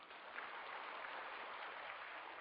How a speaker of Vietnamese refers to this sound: Cho một tràng pháo tay đi.